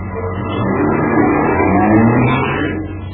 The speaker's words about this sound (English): Now, he'll get into the car. He'll start the engine. And then he'll drive off.